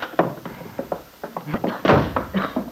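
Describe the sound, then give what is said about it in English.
The kitchen door at the Lane farm bursts open as Lefty Larkin bursts through it: a quick run of rattling knocks and thumps, then a heavier bang and a few scraping clatters as it swings and settles. “And at that moment at the Lane farm, Lefty Larkin burst through the kitchen door.”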